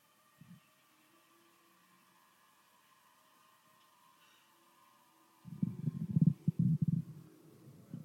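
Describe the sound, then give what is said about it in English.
Low, gurgling stomach rumbles: a short grumble at the start, then after a quiet stretch a loud, irregular run of bubbling churns that fades away toward the end. No one speaks. “Somebody sounds like they got indigestion.”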